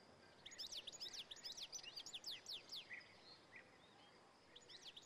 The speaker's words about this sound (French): Le chant que vous entendez là, c'est celui du chardonneret élégant. Un magnifique oiseau, sûrement le plus beau qu'on puisse voir dans nos jardins. Il est facilement reconnaissable avec son masque rouge, avec des ailes jaunes et noires.